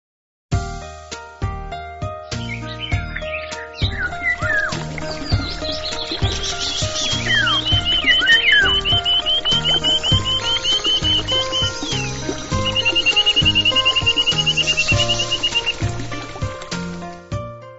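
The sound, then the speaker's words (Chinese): Many birds chirp, tweet and trill together in a bird garden aviary, a busy continuous chorus of high calls with fast trills, over a steady rhythmic musical background, with no talking. “欢迎两位，这就是我的鸟园。”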